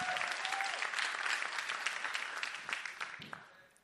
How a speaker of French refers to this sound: L'Église de Jésus-Christ, comment? Faut s'applaudir.